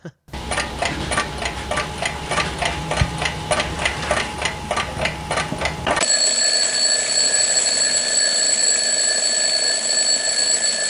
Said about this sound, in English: Another one is the sound of an actual analog alarm clock.